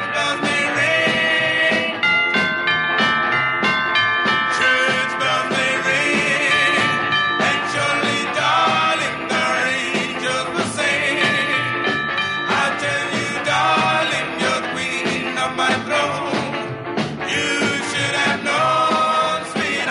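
A doo-wop song plays loudly and steadily on the Savage Nation show, with sustained harmonized vocal lines riding over a full, rhythmic band backing.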